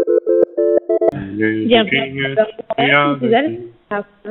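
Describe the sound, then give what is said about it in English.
A telephone ringing tone chirps in a quick run of short electronic beeps for about a second while waiting for an answer, then stops as a person's voice takes over, speaking clearly. “We're begging you, pick up phone.”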